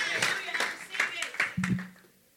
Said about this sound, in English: Oh, clap for this new government.